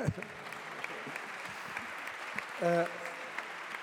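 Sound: applause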